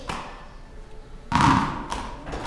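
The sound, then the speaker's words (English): Several balls bounce on a hard surface, making a run of sharp thuds and taps that land in a loose rhythm, with one heavier, longer burst of impacts in the middle. “I like the fluidness and the rhythm of all the balls bouncing as one.”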